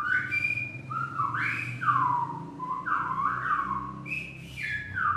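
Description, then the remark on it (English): Silbo whistled language: a loud, piercing whistle sliding up and down in speech-like phrases with quick glides and brief breaks, running for several seconds over a steady low rumble. “But today there's little practical use for the silbo, what with cell phone and internet coverage just about everywhere.”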